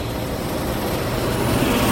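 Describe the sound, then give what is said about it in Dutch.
Steady street traffic noise from a garbage truck and large and small cars at traffic lights, a continuous low rumble of passing vehicles with engine drone building slightly louder toward the end; no voices. “Je hoort nu het geluid, ik ook, van de weg.”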